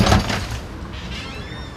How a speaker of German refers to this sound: Beim Öffnen der Ladentür scheppert die Glocke laut und eindringlich. Ein kleiner, unscheinbarer Laden, nicht größer als ein Wohnzimmer.